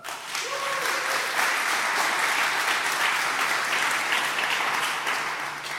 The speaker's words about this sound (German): Genau, deswegen viel Applaus für